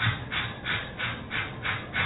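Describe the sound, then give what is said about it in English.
A person demonstrates breathing for labor at a natural childbirth class, panting in quick, steady rhythmic breaths, about six short huffs in a row, moderately loud with no other sounds. “Now, when you go into labor, you must breathe like so.”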